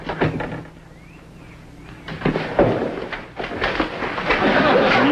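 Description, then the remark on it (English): A door is unlatched and swung open with a click and a rattling scrape, followed by shuffling and clattering movement as muffled voices stir in the background. “when they open the door, we'll rush him.”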